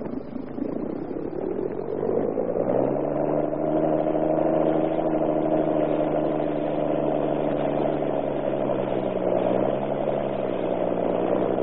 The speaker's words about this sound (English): Ship off, Captain. Aye, aye, sir. Get our engine going.